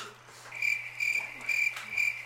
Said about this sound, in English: Okay, crickets. You heard the crickets?